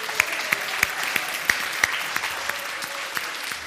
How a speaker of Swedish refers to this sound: Ska vi ta en applåd, eller? Men det kan vi göra.